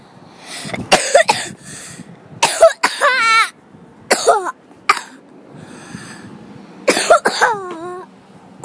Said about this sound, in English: See, that coughing, that's your body saying something's wrong.